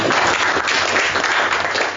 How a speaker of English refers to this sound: Okay, applause, please.